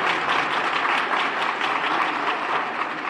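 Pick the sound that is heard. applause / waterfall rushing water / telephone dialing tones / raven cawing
applause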